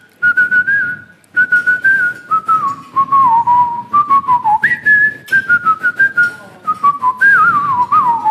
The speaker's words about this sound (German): Wenn ich jetzt sagen würde, können Sie mal schnell irgendwas pfeifen? Könnten Sie das?